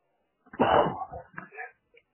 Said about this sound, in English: A little sneeze right there. You might have heard that. Picked up a cold a couple nights ago, riding 2 wheels about 70 miles back home in the cold weather.